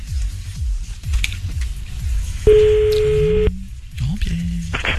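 A single steady electronic ringback tone sounds for about a second in the middle of an outgoing phone call, over a low background rumble, with brief muffled noises after it.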